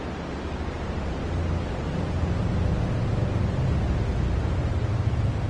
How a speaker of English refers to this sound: The first sound in the universe is joylessly underwhelming. White noise, boring through the taffy stretch of nascent space. The Big Bang is not a bang, but a droning robotic purr.